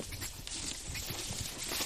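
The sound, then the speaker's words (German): Heavy, irregular thuds and rustling crackles from an elephant moving through branches behind a bush, not far away and directly to the left: a series of dull footfalls over a steady hiss, with no voices. “Oh, direkt links. Oh, das ist der Elefant.”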